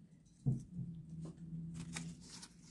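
A pencil is snapped to add to a layered art picture, one sharp, brief crack, followed by a few faint scratchy rustles and crackles over a low steady hum. The whole clip is quiet.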